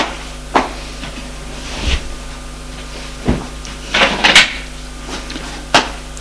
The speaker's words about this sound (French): Et tire une chaise.